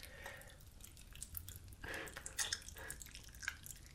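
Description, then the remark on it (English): Pop Rocks candy crackling in a mouth: irregular wet crackling and popping, a steady stream of tiny sharp snaps and fizzy clicks, with a few louder pops rising above the faint fizz. “Dude, you are the pop rocking.”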